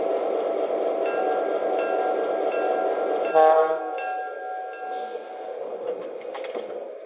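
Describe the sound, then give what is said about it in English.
Passenger train number 12, the Texas Special from San Antonio, rumbles steadily as it arrives at Muskogee station, then a loud horn-like tone blares midway through with several harmonic notes before the rolling noise settles and fades slightly. Continuous, with no voices. “from San Antonio, train number 12, the Texas Special.”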